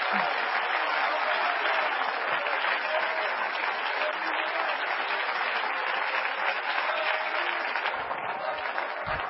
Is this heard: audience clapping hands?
yes